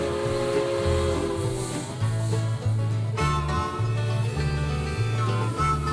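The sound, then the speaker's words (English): A freight train whistle sounds loud in long, sustained chord-like blasts, its tones held and shifting over several seconds with a low rumble underneath and no talking. “Hear that lonesome freight train whistle call.”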